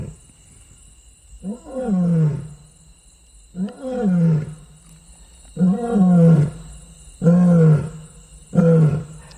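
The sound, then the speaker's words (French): A lion roars in a series of five deep, heavy grunting calls, evenly spaced and growing louder, powerful, about 10 to 15 metres behind the listener, against a quiet background hum of insects. “Alors on va écouter le lion.”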